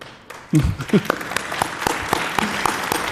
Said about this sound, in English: Get your applause and leave the stage.